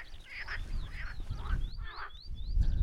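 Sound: frogs croaking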